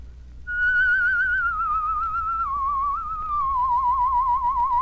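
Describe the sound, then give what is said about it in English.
A sustained human whistle with a wavering tremolo, the pitch slowly sliding downward over several seconds, loud with no talking and only a low background hum. “I mentioned a while ago we were going to take an exercise that would give you a beautiful tremolo on your whistle.”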